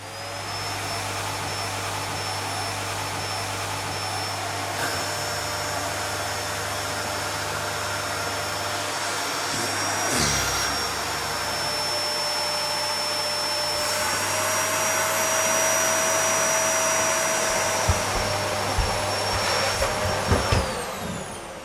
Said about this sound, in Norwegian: Du har kanskje ikke brukt støvsuger før, du.